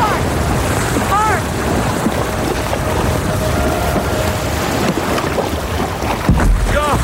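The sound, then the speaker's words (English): A small boat being paddled onto a breaking swell toward a beach: constant loud rush of surf and churning water with heavy wind buffeting the microphone, with brief strained cries rising over the roar. “Once the next swell comes in, we're gonna paddle like hell and ride it in.”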